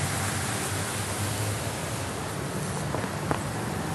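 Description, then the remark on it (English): A steady, even hiss of light rain fills the whole stretch, with a couple of faint drips or taps standing out near the end and no voices. “It's raining a little bit less now.”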